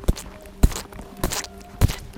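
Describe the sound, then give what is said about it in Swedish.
Four heavy, squelching footsteps of people with a camera trudging through mud while filming cows, at a slow, steady pace, each a dull thud with a wet smear, spaced about half a second apart, with no talking. “det var en kamera som traskade genom lera.”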